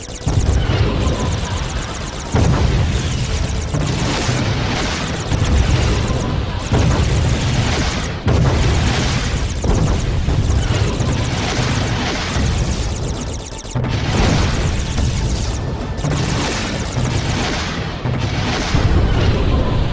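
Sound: spaceship exploding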